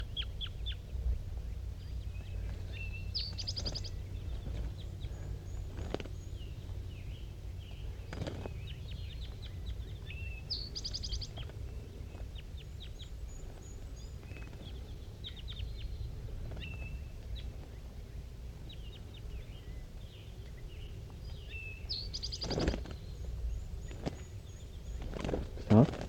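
Soft calls from two wild birds in the top of a dead pine tree in thick fog, short high chirps and clucks recurring every few seconds as they call back and forth, over a steady low rumble, with occasional brief knocks and rustles.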